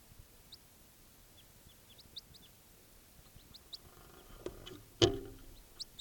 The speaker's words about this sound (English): I just collected that bird.